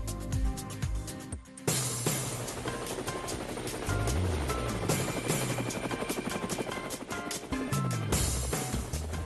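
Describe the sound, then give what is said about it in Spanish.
A loud helicopter with rapid, steady rotor blade chopping that continues throughout, after a brief dip near the start, with no one talking. “Bueno, amigos de Cuba, ahí están las zapas del helicóptero.”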